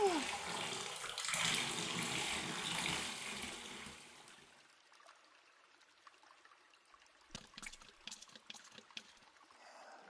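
Warm water is poured over a person's head at the start of a shampoo, a steady rushing splash for about four seconds, then fades to quiet dripping and small wet splashes and trickles.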